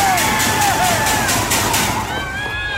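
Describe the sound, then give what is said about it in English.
A dense, loud crowd at a deck hockey game roars and yells continuously after a goal puts the home team 10-2 ahead, with whistles and high shouts rising above the steady wall of cheering throughout. “That's a ruthless crowd out there for the Long Island Thunder.”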